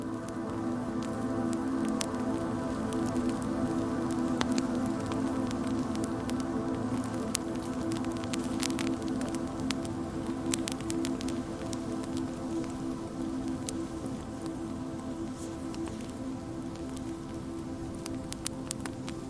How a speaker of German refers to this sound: Das Knistern des Lagerfeuers macht dich schläfrig.